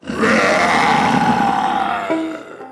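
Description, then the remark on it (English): A lion opens its jaws wide and lets out a loud, rough roar that swells up quickly and holds for about two seconds with a throaty, growling texture, then drops lower in pitch and trails off. “A moment later, the lion opened its jaws wide and let out a mighty roar.”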